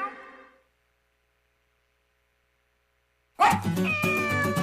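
A brief, high kitten meow opens, followed by about three seconds of silence, then a louder, longer meowing cry over a bright, busy background that runs to the end.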